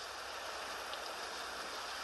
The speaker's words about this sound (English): I have one of these goofy apps on the iPhone that plays rain sounds. I run that all night.